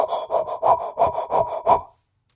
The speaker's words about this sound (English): And the most important thing about that visit is that the baby has a heartbeat. And every time, it is the sweetest sound. It's actually a little creepy, but it's sweet because it means the baby's okay.